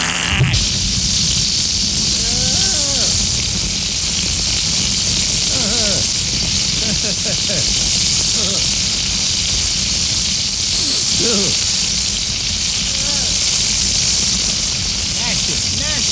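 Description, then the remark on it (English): Steady, loud frying sizzle from a grease fire in a pan, a dense crackling hiss that runs unbroken throughout, with faint voices murmuring underneath. “Let it burn itself out.”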